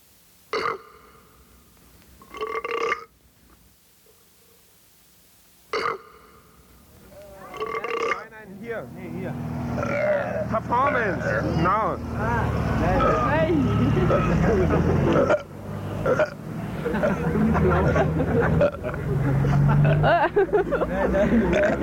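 Several loud, separate belches ring out with pauses between them, then a long, dense stretch of gurgling burps over a rumbling, lo-fi background with crowd-like noise.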